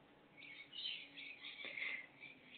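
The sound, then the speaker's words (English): Birds chirp and tweet outdoors in a continuous, busy chorus of high-pitched calls, fairly soft, with no one speaking. “And you can hear the beautiful birds.”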